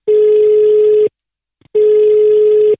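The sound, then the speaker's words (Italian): Two loud, steady telephone ringing tones, each lasting about a second with a brief pause between them, heard on the line with no one talking. “Andiamo subito al telefono su Radio Toscana”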